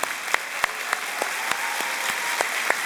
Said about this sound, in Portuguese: Ô, mãe, fica de pé aí, o pessoal te dá uma salva de palmas. Fica de pé.